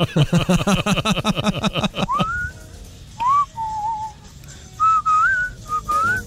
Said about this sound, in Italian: Senti un po' il tutorial per fischiare. Vabbè, così pure io fischio, dai.